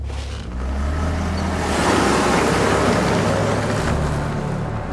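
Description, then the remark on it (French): A car engine revs up and accelerates at night, its broad rushing roar swelling after a brief pause and holding steady, loud, with low engine hum underneath and no voices. “Tandis que la voiture accélère dans la nuit, les ténèbres reviennent.”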